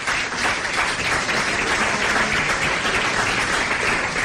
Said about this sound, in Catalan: Com es deia Joan Rafel, per al qual demano l'aplaudiment també, sisplau.